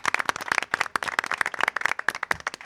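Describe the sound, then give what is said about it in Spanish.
A brief burst of applause dedicated to the Dirección General: many quick, sharp claps in a steady, dense rhythm, fairly loud, with no voices over it. “Así que sí, el aplauso pues, de hoy sábado va para la Dirección General.”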